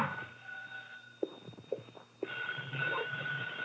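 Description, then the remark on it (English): A telephone rings in an apartment with a sustained, bright electronic tone that carries through the whole moment, while a few soft knocks and footstep-like thuds sound. No one speaks. “My phone was ringing when I got there.”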